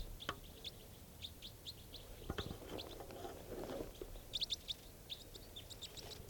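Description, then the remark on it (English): A small flock of type 4 birds, just arrived and all high in the trees, calls in quick, overlapping high chirps, scattered throughout and bunching into busier bursts, with a few low thumps and a soft rustle midway. “a small flock of type 4s has just arrived on the scene. And they're all high in the trees.”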